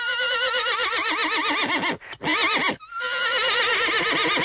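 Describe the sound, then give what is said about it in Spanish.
A horse neighs loudly in long, quavering whinnies, broken by two brief pauses before the trembling cry resumes and carries on to the end, with no talking. “Al pie del monte se aparece un caballo sin cabeza”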